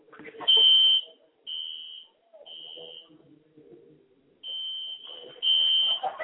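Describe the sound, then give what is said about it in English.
A building fire alarm going off at the venue of a football game between the California Quake and the Sacramento Sirens, sounding in a series of loud, shrill electronic tones, each burst lasting about half a second or more with short gaps between, while muffled voices murmur underneath. “You know, it's rather amusing that the California Quake are playing the Sacramento Sirens, and now the sirens have gone off here at the building.”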